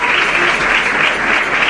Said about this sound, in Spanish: Y el aplauso